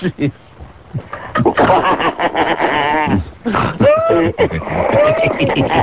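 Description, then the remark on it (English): A man growls and roars in a playful imitation of a big cat, loud, with gravelly bursts mixed among laughter and excited voices. “He's having fun. Roar!”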